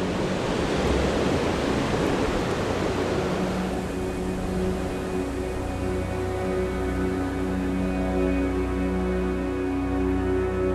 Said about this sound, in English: And all around us, creeping in around the edges of the recording we're listening to, is the actual roar of Ocean Beach.